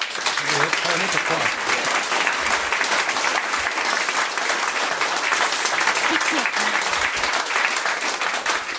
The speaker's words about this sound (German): das ist der Unterschied zum Theater. Beim Radio kommt der Applaus gerade am Anfang. Ich habe ihn auch sehr genossen. Beim Theater muss man zuerst etwas schaffen dafür.